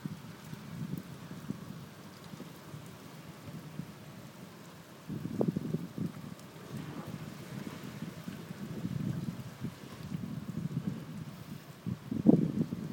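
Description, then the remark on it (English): Wind gusts outdoors, recorded out a window, a steady low rumble that swells and buffets in waves, strongest around the middle and near the end, with no voices. “And now we're out the window again. Inside. It's windy. So it's a bit bad.”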